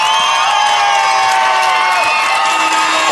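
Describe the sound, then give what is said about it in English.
A loud, steady end-of-game horn blares continuously over a roaring arena crowd at Frail Court as confetti falls and Washington State beats Oregon 68-53 in the final home basketball game of the 2005-06 season, with cheering and shouting filling the whole few seconds. “That's the horn as the Cougars, the confetti falls here at Frail Court, the final home game of the 2005-06 basketball season for the Crimson and Gray.”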